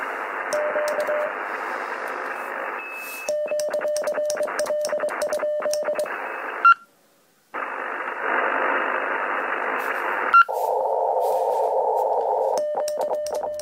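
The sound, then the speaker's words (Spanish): Morse code beeps tapping out short and long steady tones over a constant hiss of radio static, with a brief silent gap and a harsher buzzing stretch near the end. “Este hecho fue importante porque hasta entonces la radio se hacía en código Morse.”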